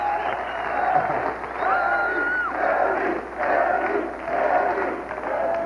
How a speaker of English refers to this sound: Yeah, you can tell the audience has been primed to, like, oh, just laugh and stand up and cheer, you know, every time Chevy does something funny.